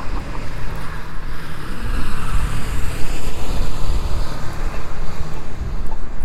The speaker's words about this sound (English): And it is a sunny, a little bit windy afternoon. Waiting on a red light here, about to cross State Street.